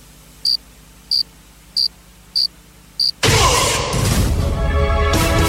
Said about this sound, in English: This 3 seconds brought to you by that one cricket outside your house keeping you up at night.